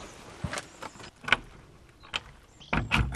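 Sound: keys jangling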